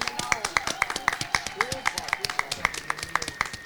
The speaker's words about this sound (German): Genau. An dieser Stelle würde ich sagen, gibt es einmal einen Applaus für die SWE-Beschäftigten hier.